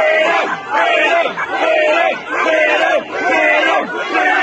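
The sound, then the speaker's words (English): A large crowd of protesters chants "freedom" loudly in unison, repeating the same short shouted word in a steady rhythm, with brief dips between each call. “A number of these protesters chanting freedom.”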